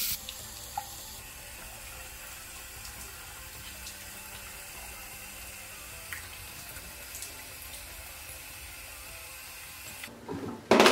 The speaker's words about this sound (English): So I'm just gonna quickly go down to the bathroom and I'm gonna wash this off. I kind of like to use a lukewarm water.